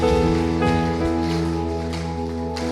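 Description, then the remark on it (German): A crowd applauds steadily for God during a moment of worship and praise, beneath sustained, droning musical chords, the clapping a continuous crackling wash that holds an even level throughout. “Lass uns Gott doch mal einen Applaus geben, ihm die Ehre geben für das, wer er ist, das, was er in unserem Leben getan hat.”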